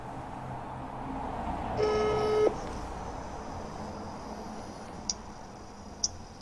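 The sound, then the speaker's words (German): A mobile phone gives a short electronic tone burst as a call is placed, then a thin, steady high-pitched call tone holds while a few faint blips tick by. The sound is quiet and without speech. “Wenn nicht, dann rufe ich ihn hier an.”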